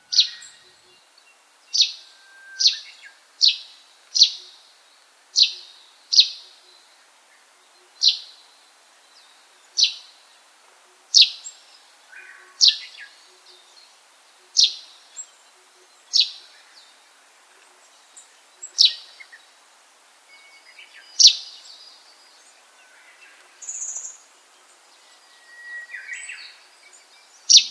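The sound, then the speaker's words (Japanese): A russet sparrow calls again and again, a string of sharp, bright chirps at a fairly steady pace, clear against a quiet beech forest on the Daigenji Plateau, with a few softer twittering notes near the end. “森の中でスズメの鳴き声が聞こえてきたら、姿を探してみてください。”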